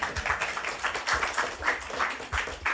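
An audience claps together in a steady, dense patter of many hands, swelling in small rhythmic surges over a few seconds, with no one speaking.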